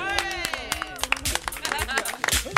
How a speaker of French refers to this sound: On va tous applaudir les 3e et 4e points de l'équipe des Losereuses. Magnifique.